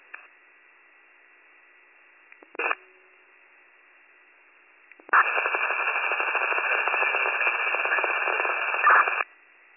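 A band-limited transmission from a portable radio on an ambulance and county dispatch channel, mostly quiet hiss, then a short squelch click and, after a pause, about four seconds of loud, harsh, unintelligible garbled noise before cutting off.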